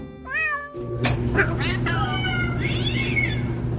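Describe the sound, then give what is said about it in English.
Several cats meow and yowl in quick succession, their drawn-out, wavering cries overlapping above a steady low mechanical hum. “I don't know if you've noticed, but the equity markets, the commodity markets, and bond markets have all been about as tranquil this week as a trio of cats tossed into a clothes dryer.”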